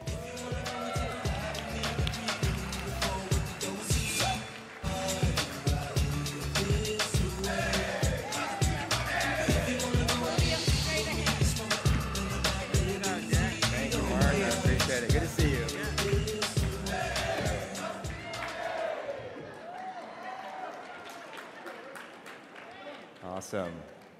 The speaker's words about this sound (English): I'll say that cheering was for me, but wait till after this, and then maybe you won't be cheering.